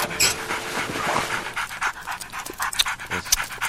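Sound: dog panting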